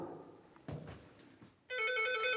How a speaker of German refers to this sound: Ah, klingelt schon, sind schon da.